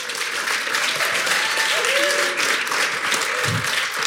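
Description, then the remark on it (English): Sustained audience applause for a guest, a dense steady wash of clapping at an even loudness for several seconds, with faint voices and a brief whistle-like tone mixed in. “All right, can we give our guest a huge round of applause?”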